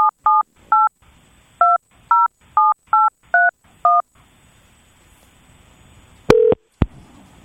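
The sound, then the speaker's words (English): Someone dials into a conference call: a rapid series of about ten short, clear telephone keypad tones beeps in an uneven rhythm, followed after a pause by a longer tone and a sharp click. No one speaks. “So I let her know yesterday that as soon as the presentation was completed, I would call in.”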